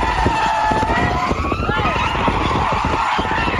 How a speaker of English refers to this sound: couple in Houston made one mistake, though. They hooked the chain up to the back of his car, and they towed it backwards, and the car was all over the road. Here, listen to this.